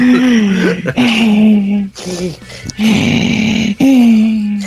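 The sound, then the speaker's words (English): Heavy mouth breathing into a microphone, loud and raspy, with voiced groaning exhales alternating with noisy inhales in a slow, uneven rhythm. “I didn't know if the breathing was part of your fucking reading.”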